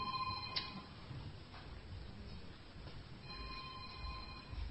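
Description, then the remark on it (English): An electronic ringtone mimicking an old bell telephone chimes twice, once at the start and again near the end. The tone is steady and moderately loud, with no one speaking. “I can recognize ordinary phones. It's an imitation old-fashioned phone.”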